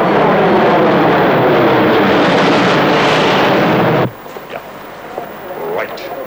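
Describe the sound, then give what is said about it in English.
An EgyptAir passenger jet roars loudly and steadily as it takes off from Cairo, then cuts off abruptly after about four seconds, leaving a quieter background where faint voices can be heard. “The aircraft left Cairo, and the murderers are on board.”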